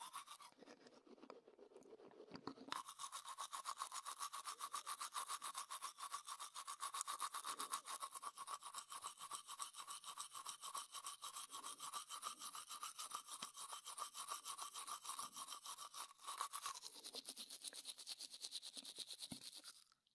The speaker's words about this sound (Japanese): それ、やだよ。なんで歯磨かれなきゃいけないの？子供でもあるまいし。